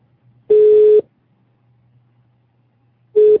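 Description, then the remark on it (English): A steady electronic telephone tone pulses twice, a half-second burst followed after a long silent gap by a shorter one, like a call ringing through on the line; no voices. “Are you hearing me ringing in now?”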